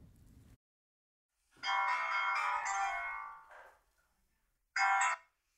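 A phone rings on an outgoing call to a found adoptee: a long electronic ring tone, a brief trailing chirp, then a short second burst after a pause, clear with no one talking.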